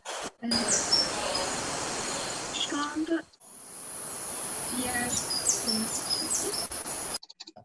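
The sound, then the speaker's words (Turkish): Short, high chirps from a small bird repeat through a steady background hiss, fairly faint, with a person briefly speaking near the end. “Bildiğimiz küçük kuş sesi.”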